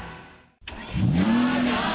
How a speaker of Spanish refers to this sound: Así suena el auto que puedes ganar con tu nómina Citibanamex.